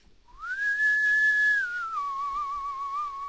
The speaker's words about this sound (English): Is that a clean whistle? No. I'm cleaner than that whistle.